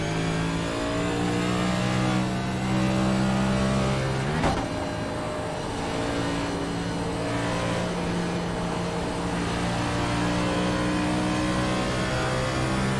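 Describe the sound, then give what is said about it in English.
A race car engine roars loudly and steadily at high revs, with a brief sharp break around the midpoint like a gear change before the strong whine settles back in. No voices. “There's a car behind.”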